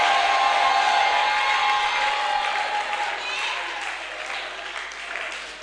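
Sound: audience cheering and shouting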